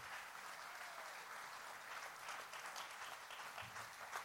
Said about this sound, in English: I want to invite a special group, our Bethel kids. Would you give them a round of applause as they come forward?